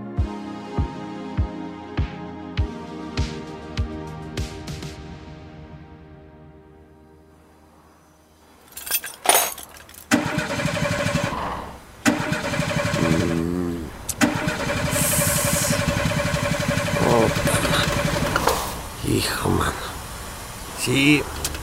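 car engine cranking

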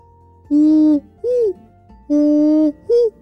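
great horned owl hooting

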